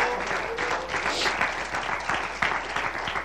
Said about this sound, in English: Can anybody give the Lord a hand clap of praise?